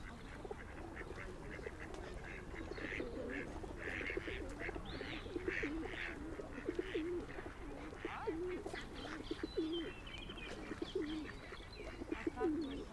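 Several pigeons coo steadily, their low, throaty calls repeating in overlapping rolls over a busy background of rustling and other faint bird sounds.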